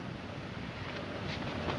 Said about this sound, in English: Well, here we are in the car.